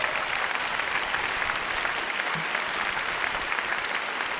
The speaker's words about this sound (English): Let's give her a big round of applause.